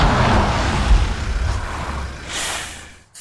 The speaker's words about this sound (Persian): مشغول قرار دادن جک زیر ماشین بود که یه مرتبه صدای گوش خراش ترمزای بادی یک کامیون تو جاده به گوش رسید.